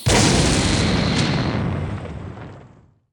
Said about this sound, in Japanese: ふむ、聞いておった通り爆発しよったの。まあわらわにはほどよい熱加減じゃ。